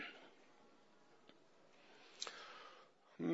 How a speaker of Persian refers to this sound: بده قلمو. نوک قلمو گذاش رو کاغذ.